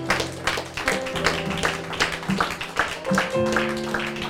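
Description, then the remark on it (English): An audience claps hands in praise, a dense, steady patter of many hands over sustained keyboard chords that hold and shift underneath throughout. “Let's give our God a hand clap of praise.”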